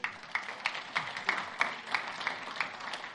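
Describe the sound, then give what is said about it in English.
An audience claps together for the Lord in a steady, even rhythm, roughly three sharp claps per second, a bright crisp sound that carries on for a few seconds with no talking over it. “I think that's worth giving the Lord a clap, isn't it?”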